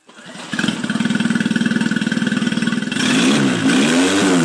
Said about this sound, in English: A boat engine is fired up in a video sent by a smuggler to our undercover journalist, who's posing as a Syrian migrant hoping to get to Britain.